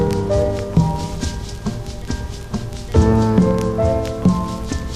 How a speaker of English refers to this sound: Rain beats time.